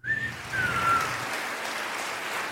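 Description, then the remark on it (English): A steady wash of crowd applause, dense and crackling for a couple of seconds, with a few brief high whistles at the start. No one talks. “Anyway, giving you all a round of applause.”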